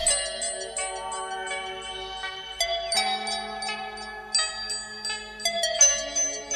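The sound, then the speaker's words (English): Tubular bells chime in a steady melodic sequence, each struck note ringing clearly and overlapping the next, moderately loud with no voices. “Tubular bells.”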